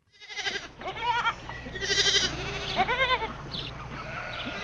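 Several Cormo sheep, a Saxon Merino and Corriedale cross, from a farm flock at Rowella, Tasmania, bleat, their wavering cries overlapping and following one another in quick succession against a steady low background hum.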